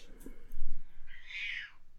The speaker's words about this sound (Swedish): Där hörs min katt.